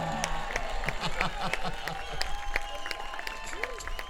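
Steady audience applause fills the whole stretch, a dense patter of many hands clapping at even loudness, with scattered voices and cheers rising faintly through the crowd noise.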